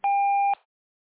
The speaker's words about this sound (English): Please start recording your message after the tone.